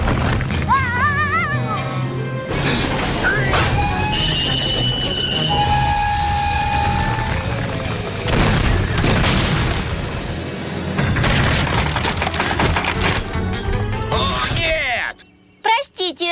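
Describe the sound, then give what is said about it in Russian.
Loud, sustained rumbling crash of rocks tumbling down onto the tracks of a railway bridge, mixed with train noise and booming impacts, before cutting off abruptly near the end. “Рельсы засыпало!”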